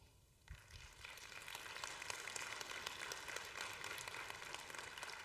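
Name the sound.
audience clapping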